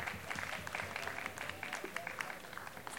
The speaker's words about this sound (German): Nog een groot applaus voor …. Hij komt zo meteen terug.